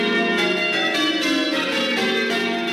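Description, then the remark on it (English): A peal of eight church bells in change ringing, a 17th-century English style, the ringers pulling the bells in repeating patterns that shift or change, struck in quick, steady succession so their rich ringing tones overlap into a continuous, loud, resonant wash with no voices. “Here's what it sounds like with eight bells.”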